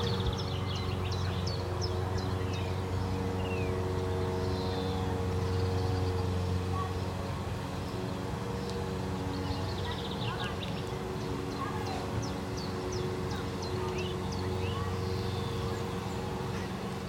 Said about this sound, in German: Also ich würde sagen, Idylle mit Rasenmäher.